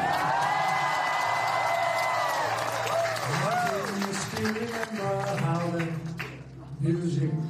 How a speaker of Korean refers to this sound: 지난 4월 국빈 방문 시 윤석열 대통령은 백악관 만찬장에서 이 노래를 불러 큰 박수를 받았습니다.